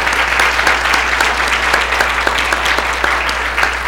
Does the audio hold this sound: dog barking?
no